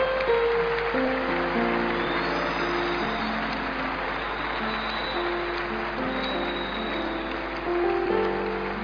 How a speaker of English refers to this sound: You are clapping so much for Him. What a day, what a blessing in God's presence. Keep clapping for the Lord, Church.